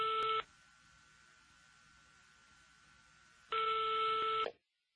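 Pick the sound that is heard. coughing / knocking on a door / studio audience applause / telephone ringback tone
telephone ringback tone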